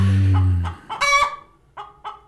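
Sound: chicken clucking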